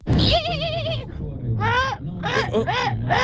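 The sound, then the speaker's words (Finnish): A man vocally imitates a raven's croak: a series of loud, wavering cries, one long drawn-out call followed by several shorter bursts, with no other sounds around them. “Sieltä tuli pieni korppi perään, sieltä mutta tuli.”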